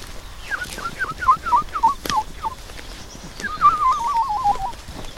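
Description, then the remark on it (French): Someone whistles an imitation of a woodlark's song: about eight short, falling notes in a steady run, then a quick, wavering trill, clear over faint background noise. “Là, ce qu'on entend au-dessus, c'est une alouette Lulu, c'est une petite alouette très mignonne, mais je sais pas si elle chante en vol, elle est au-dessus de nous, mais comme elle est loin, on la voit pas.”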